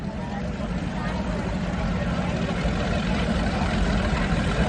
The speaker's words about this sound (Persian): صدای قرش ملایم اما مداوم موتور قایق‌ها که از کانال می‌گذرند یادآور این است که اوقات فراغت در آمریکا کالایی مغتنم است.